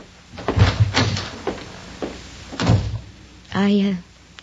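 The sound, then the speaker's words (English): A wooden door leading to the kitchen is handled: a few solid wooden thumps and knocks, then a short creaking squeal of the hinge before it settles shut. “Right through that door to the kitchen.”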